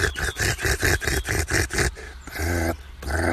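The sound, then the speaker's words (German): A nightingale's harsh rattling alarm call at a marten: about eight rapid, grating pulses in quick succession, followed by a brief, more tonal churring note and another rasp, loud and without any voices. “Die Nachtigall. So ein Schnarren hat die.”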